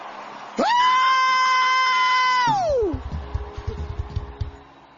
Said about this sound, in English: Give him the loud shout of, hey!